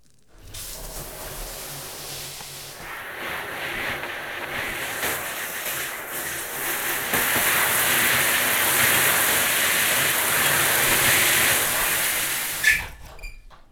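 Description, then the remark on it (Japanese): A steady stream of shower water hisses and splashes, rinsing shampoo foam from a person's hair, growing fuller and louder midway before cutting off abruptly at the end. No one speaks. “では泡を流すので目をつぶってください。”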